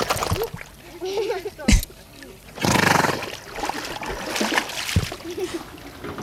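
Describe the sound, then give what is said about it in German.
Wet bubbling and splashing water sounds, with a loud gurgling burst in the middle, as the pony Mira drinks from a fountain with its whole head held underwater, halfway along a trek through the village of Itter; voices talk softly in the background. “Auf halber Strecke durften die Tiere auch mal aus einem Brunnen saufen.”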